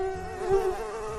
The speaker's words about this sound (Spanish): La mosca negra posada en la comida. Un insecto que enseguida se te va a la memoria. Podría haber estado inmediatamente antes sobre excrementos de animales.